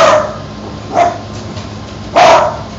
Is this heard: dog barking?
yes